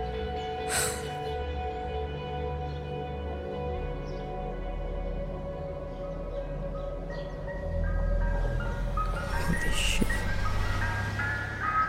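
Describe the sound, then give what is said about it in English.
An ice cream truck's tinkly chime melody plays steadily over a low engine rumble, the motor growing louder partway through as the vehicle draws in. “When he stops the truck, move into phase two positions.”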